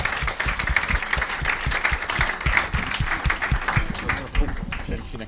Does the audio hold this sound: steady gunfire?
no